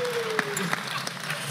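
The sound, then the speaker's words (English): A steady wash of clapping, like a small crowd applauding, with a few sharper individual claps popping out above the dense hiss. Fairly quiet overall. “Let's clap that up.”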